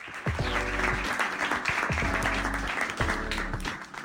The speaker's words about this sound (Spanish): Aplausos, por favor.